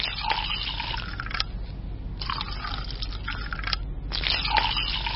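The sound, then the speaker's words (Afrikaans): White wine pours into a glass in three gurgling bursts separated by short pauses, clear with a faint low hum underneath and no voices. “Ek weet is laat, maar ek is seker jy sal nie 'n glasie witwyn weier nie.”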